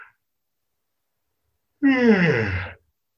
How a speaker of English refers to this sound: It's just some kind of energetic release or little interval sometimes between the next round of call-in. So I yawn a lot when I'm invoking, and now they have me yawn again.